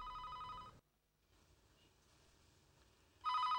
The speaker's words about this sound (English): Howard, the phone is ringing! Here's a crazy idea, Ma. Answer it!